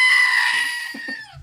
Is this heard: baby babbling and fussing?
no